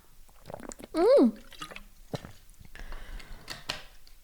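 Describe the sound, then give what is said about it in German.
Someone takes a sip of water, with a single loud gulp and some small wet mouth clicks and drips around it, no talking. “Ich kann auch mal kurz einen Schluck Wasser trinken.”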